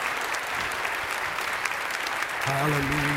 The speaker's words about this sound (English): Let's give a clap and a shout unto the Lord. Yes, you guys. Yes, you guys.